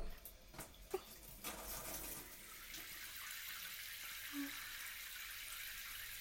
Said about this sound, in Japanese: まずはシャワーで汗を流しちゃいますね。